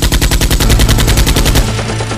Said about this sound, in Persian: از همه طرف دارن شلیک میکنن.